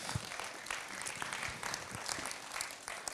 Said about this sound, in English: And I thank God for this organization, for this ministry, that every morning that things are going to take place. Can we clap for that in the name of Jesus?